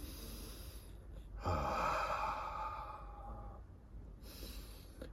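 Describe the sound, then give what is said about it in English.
A single slow, deep breath taken to calm oneself, swelling for a couple of seconds and then fading into quiet background noise, with no one speaking. “Breathing in, calm myself. Breathing out, I smile.”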